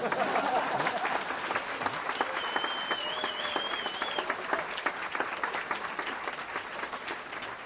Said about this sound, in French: Pour Bernard Wyss, le directeur du festival, et vous pouvez applaudir.